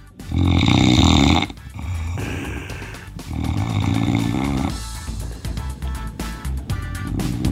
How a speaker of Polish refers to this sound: Mhm, poprosimy jeszcze raz ten dźwięk chrapnięcia.